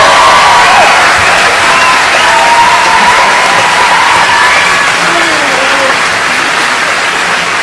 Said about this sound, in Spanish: Así que yo quiero que no me lo dejen solo, así que vamos a darle un buen aplauso a Ramo.